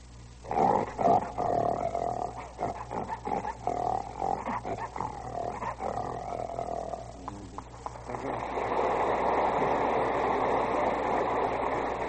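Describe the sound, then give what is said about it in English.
A human voice imitates a lion's roar with rough, throaty growls in loud bursts, then gives way to a steady, rushing hiss for the last few seconds. “And a lion.”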